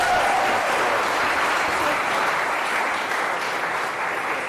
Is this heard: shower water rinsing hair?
no